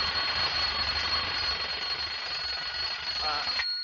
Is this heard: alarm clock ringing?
yes